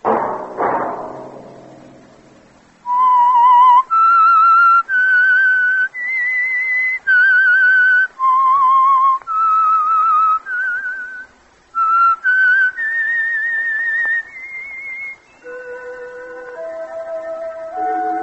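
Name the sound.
whistled theme melody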